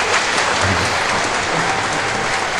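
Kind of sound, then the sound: crowd, applause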